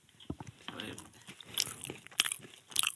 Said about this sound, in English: He's eating both at the same time, folks. He's slurping it up.